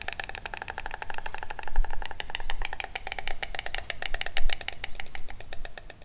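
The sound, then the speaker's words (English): A white stork in Spain, sitting in its nest during the breeding season, bill clapping to greet its returning partner: a loud, rapid wooden clattering that rattles on steadily for about six seconds, swelling and easing slightly, with no voices. “I enjoyed watching one stork sitting in the nest and then greeting its returning partner with loud, enthusiastic bill clapping.”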